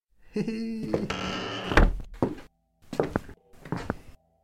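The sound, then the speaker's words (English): An unlocked door of a terraced house creaks open with a drawn-out, tonal groan, then lands with a solid thump, followed by a few shorter scraping shuffles. “The door wasn't even locked.”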